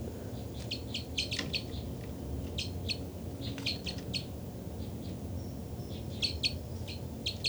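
Calls from two birds ring out in quick bursts of bright, high chirps, clustered in repeated groups over a steady low rumble of background noise.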